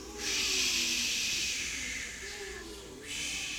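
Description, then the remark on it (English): A group of people imitate the great windstorm in the story of Jesus in the boat from Mark, making a long, breathy hissing whoosh that swells, briefly dips twice, then surges again, with a faint voiced hum beneath the hiss. “All right, a great windstorm arose. Okay, so we need some wind noises. What's some wind noises?”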